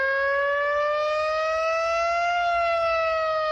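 A civil defense siren sounding a chemical-risk drill alert in Salrà, Girona, in the morning wails steadily throughout, a loud sustained tone slowly rising in pitch with strong harmonics, alongside faint low rumble and no voices.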